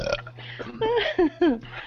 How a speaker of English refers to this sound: I think the more I burp, the better I can survive this.